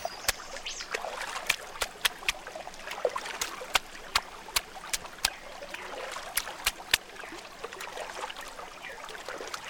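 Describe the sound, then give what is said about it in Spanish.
Water runs and trickles steadily, with a scatter of sharp clicks and small splashes breaking through the continuous babble of the current. “Son las voces de nuestra madre tierra. Tunesune. Agua. Agua”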